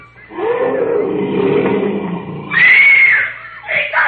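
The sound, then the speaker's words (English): A lion in a jungle, about a quarter of a mile away, lets out a long, rumbling roar that fills the first couple of seconds, followed by shrill, high-pitched cries and a brief noisy burst at the end. “They're just scared by the lion roar.”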